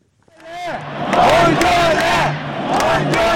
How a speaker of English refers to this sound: … led a noisy but peaceful crowd of several thousand protesters from the city court to Parliament.